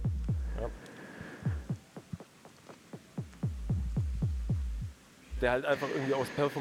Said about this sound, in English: And so this only works if it's playing, but it can do a lot of things on a very compact space. The echo, for example, the echo beat, it can do a lot of effects, like, for example, the DJ filter.